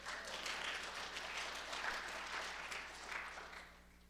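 A crowd applauds steadily, a dense wash of many hands clapping at once that holds at an even level for about three seconds before easing off toward the end. No one speaks.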